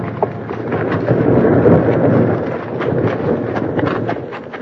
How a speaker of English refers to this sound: Started by the bank bandits, the big rock smashed down at them at tremendous speed.